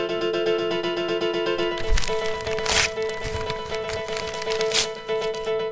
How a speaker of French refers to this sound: C'est quelqu'un qui déchire une feuille.